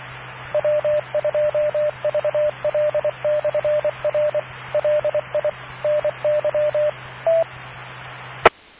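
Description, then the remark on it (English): A phone rings with an incoming call, a long run of short, evenly pitched electronic beeps in quick bursts over steady hiss and a low hum. A sharp click ends it. No one speaks. “Right, I got a phone call.”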